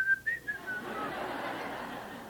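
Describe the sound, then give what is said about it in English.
A person whistles a few quick, bright notes, sliding slightly in pitch, for under a second, then the whistling stops and a soft, noisy murmur like laughter or chatter fills the rest. “You know, tonight, are you going to go out to your car and whistle?”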